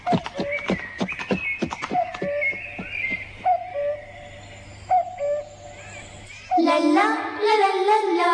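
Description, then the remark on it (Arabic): A horse's hooves clop in a quick, uneven rhythm alongside short tonal calls, followed by a louder whinny-like cry near the end. “أتمنى أن تبقى هادئا أيها الحصان الجميل، حافظ على هدوئك.”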